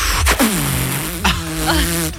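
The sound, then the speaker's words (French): A voice imitates a vacuum cleaner sucking up a sock: a continuous buzzing hum that slides down in pitch, broken by two abrupt, noisy bursts before the hum resumes. “Alors moi, j'imaginais pas ça du tout comme un bruit pour un aspirateur qui se prend une chaussette.”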